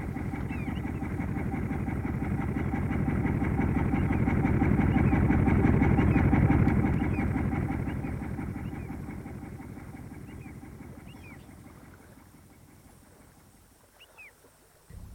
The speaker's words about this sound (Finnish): Tuolta tulee yksi moottorivenekin.